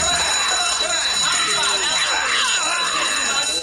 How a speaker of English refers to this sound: With a grin, Blanks raises a lever on a wall-mounted alarm system